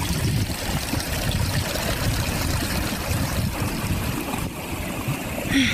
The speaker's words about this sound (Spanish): La niña, con mucho trabajo, caminó hasta el pozo cargando el tremendo cántaro, y cuando por fin llegó, comenzó a llenar.